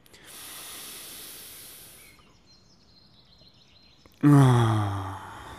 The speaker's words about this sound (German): Okay, lass uns einen tiefen Atemzug nehmen.